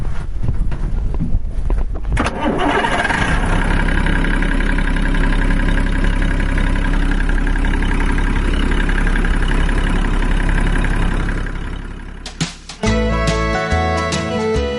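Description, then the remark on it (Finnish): An engine sputters and catches, then settles into a loud, steady idle with a rhythmic low chugging. Near the end the drone drops away and a different tonal sound takes over. “Kohta pärähtää Ploa Pertta käynti. Katso, että onko moottori paikalla.”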